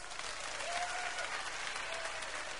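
A sizeable crowd of men claps steadily, a dense, even wash of applause that stays loud for nearly three seconds, with a faint whistle or cheer rising briefly in the middle.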